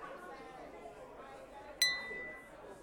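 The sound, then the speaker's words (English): Two champagne glasses clink once in a toast in a bar, a bright ring that lingers briefly, set against a steady murmur of indistinct crowd chatter. “Cheers, darling.”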